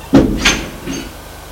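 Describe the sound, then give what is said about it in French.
A door in a small two-room flat opens into the living room with a low thud, followed quickly by a brighter clack of the latch and a softer scrape as it swings, then quiet. “Ouvre une porte, entrez.”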